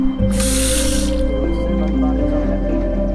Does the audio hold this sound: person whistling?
no